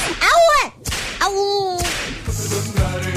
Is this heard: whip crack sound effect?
yes